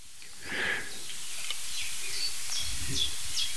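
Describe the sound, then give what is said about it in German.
A pigeon calls faintly and muffled in the background, low dull cooing over a steady hiss, with a few higher chirps and rustles scattered through. “Und im Hintergrund, ganz dumpf, hören wir die nächste Spezialtaube.”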